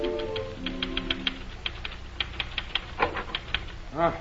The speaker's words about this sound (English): We return you now to Dr. Christian's office, where Judy is busily pounding the typewriter.